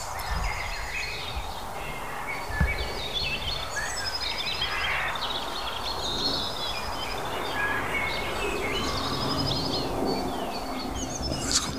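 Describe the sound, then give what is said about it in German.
Several birds chirp and trill at once in a busy outdoor chorus, darting into the bushes all around, calls overlapping continuously over a steady background hiss, with no talking. “Alter, es ist laut. Und während die ganze Zeit aber um mich rum Vögel hier in die Büsche reinschießen.”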